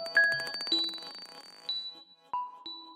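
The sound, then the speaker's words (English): Bright, glassy clicks of a glass marble bouncing with gravity, not in time, the taps quickening into a rapid rattle, followed by a few separate ringing pings at different pitches. No voices. “Actually, I realized now there was almost like a little bird call, but then it sounds like a glass marble, and it's obviously not in time. It's got this exponential, like, it's bouncing like with gravity.”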